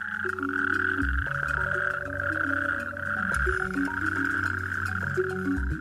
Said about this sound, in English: Then the female toad will spawn around 3,000 to 4,000 eggs in a pond, and from that come the smallest of all tadpoles in Europe. After a few months, we will have a whole new bunch of natterjack toads to listen to in County Kerry.